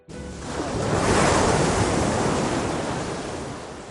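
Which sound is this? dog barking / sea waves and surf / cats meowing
sea waves and surf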